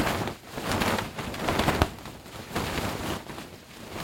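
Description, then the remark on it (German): A voice imitates wind-blown outdoor fire: a breathy, rushing hiss laced with crackles that swells and dips over four seconds, with one sharp pop partway through and no words. “Das ist jetzt ein Draußenfeuer, ne? Das ja, ist eher so, das ist ein vom so Winde verwehtes Feuer.”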